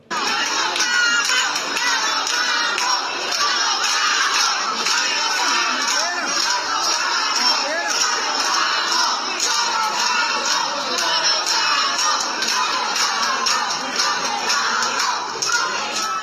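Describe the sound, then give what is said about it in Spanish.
A large crowd of more than a hundred Cubans, including women and children, sheltered after Hurricane Irma at the Escuela de Conducta in Morón, shouts in protest, many voices overlapping in a loud, sustained roar that barely lets up, with higher-pitched cries mixed into the din. “Escuchemos lo que gritaban ahí los cubanos albergados en Morón.”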